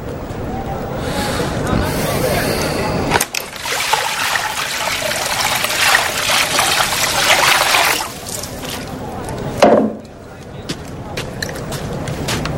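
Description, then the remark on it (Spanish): Water trickles and splashes steadily for several seconds, shifting in texture as it's poured and sloshed, with a brief louder splash near the end against faint background murmuring. “Hay que ponerla en agua.”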